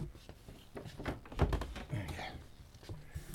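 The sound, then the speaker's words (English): A door thuds shut with a heavy, dull bump, surrounded by a few rattling clicks and knocks, while a faint voice murmurs in the background. “My door is not working terribly well.”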